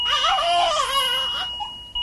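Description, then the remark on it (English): A newborn with drug withdrawal symptoms (neonatal abstinence syndrome), a day or two after birth, wails in a continuous, high-pitched, strained cry with wavering tones, loud, trailing off into a brief whimper near the end. “It's what happens when a newborn has withdrawal symptoms a day or two after birth, and this is what it sounds like.”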